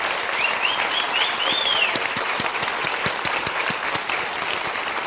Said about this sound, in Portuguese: Uma salva de palmas